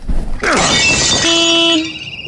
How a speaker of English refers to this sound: And there's the anti-theft device. Loud, isn't it?